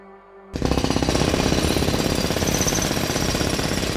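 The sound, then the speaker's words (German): A loud jackhammer starts abruptly after a brief quiet moment and pounds on continuously in rapid, steady bursts, with no voices; construction work going through a whole house. “Eine Baustelle, die sich durchs ganze Haus fressen, klopfen, sägen, hämmern wird.”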